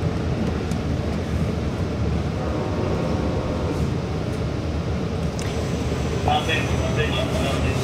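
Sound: train interior rumble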